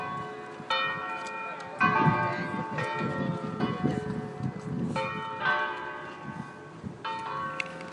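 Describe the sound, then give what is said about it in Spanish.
A church bell tower rings the hour at five o'clock, its strikes overlapping into a rich, ringing tone over steady outdoor background noise by a beach, with a few faint voices. “Y eso que soy ahí, pues es un campanario que está tocando a las 5.”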